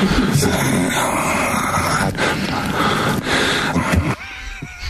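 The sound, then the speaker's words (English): Heavy, raspy breathing, loud and hoarse with wheezy rushes of air, continuing for about four seconds before abruptly quieting. “That breathing is just diabolical.”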